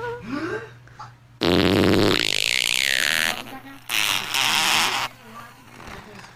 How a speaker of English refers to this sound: Maybe a cool fart?